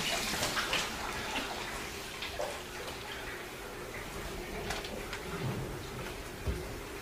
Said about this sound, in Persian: کتری روحی رو از آب پر میکنه.